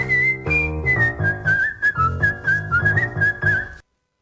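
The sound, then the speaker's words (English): A person whistles a bouncy song melody, the clear high tone hopping between notes in a steady rhythm over a backing track with a thumping beat, then everything stops abruptly. “Second song, name this song with whistling.”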